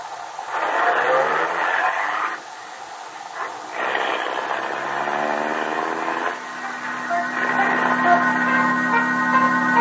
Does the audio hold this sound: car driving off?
yes